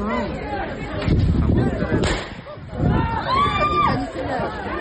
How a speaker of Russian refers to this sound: Еще одно уголовное дело возбуждено после стрельбы по толпе участников беспорядков. Несмотря на выстрелы, а затем и приехавших на место событий полицейских, разгневанная толпа расходиться не стала.